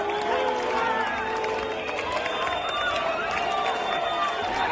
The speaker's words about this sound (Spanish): A la llegada del presidente catalán a la manifestación, que partió a las 5:15 de la tarde, se escucharon aplausos, se escucharon gritos de president y también silbidos y abucheos, llamándole butifler, traidor.